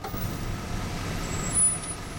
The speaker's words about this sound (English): Then, he hears a car pull up outside.